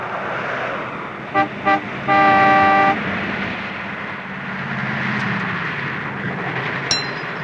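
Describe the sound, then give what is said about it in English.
A car rips out of a driveway and roars off amid steady road noise, while a horn gives two quick toots followed by a long, loud blast, and the engine rumble carries on afterward. “The car rips out of the driveway as three hired men scramble into a second car.”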